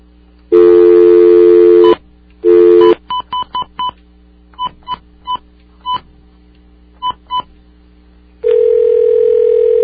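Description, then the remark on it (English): A telephone dial tone hums twice, then a quick run of about a dozen touch-tone keypad beeps is punched in irregular bursts, followed by a steady ringing-line tone, as a call is dialed to a Taco Bell restaurant. Clear, no voices. “I went to their own website and found the phone number for them.”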